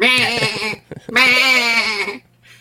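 A goat bleats twice, two loud, wavering cries separated by a short pause, the second one longer and drawn out, with no talking.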